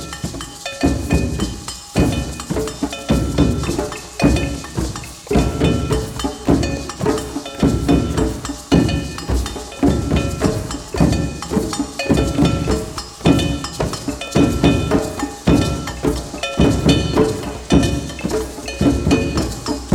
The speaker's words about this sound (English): So then what that does is so you can hit two bells together and makes kind of like a click sound, which fills more, so it fills it in.